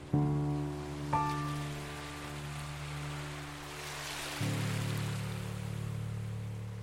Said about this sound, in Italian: Ma oggi, stranamente, a Napoli, una città caotica, si sentono soltanto le onde del mare.